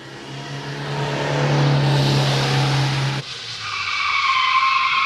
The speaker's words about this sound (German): Ein Schulbusfahrer brettert über die Übungspisten und trainiert eine Situation, die er nie erleben will.